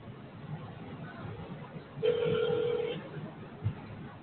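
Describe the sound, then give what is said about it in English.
A single ringback tone plays over a phone line as a call is dialed to a mobile number, a steady electronic hum lasting about a second, with faint, muffled background noise before and after. “You have 4 phone numbers for calling”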